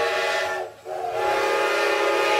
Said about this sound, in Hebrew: מה אני שומעת? צפירה של רכבת. צפירה של רכבת? אז מה אני יושבת? זאת הרי הרכבת האחרונה.